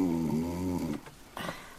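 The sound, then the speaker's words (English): A person snores loudly, one long rumbling, buzzy inhale followed by a couple of short, breathy puffs of air. No talking. “That's you snoring.”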